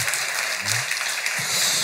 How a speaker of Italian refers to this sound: Pazienza, un applauso alla pazienza.